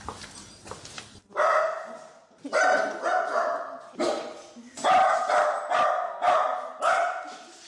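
Several dogs bark repeatedly in animal shelter kennels, loud reverberant overlapping barks in quick bursts, with a brief quieter clatter at the start before the barking begins.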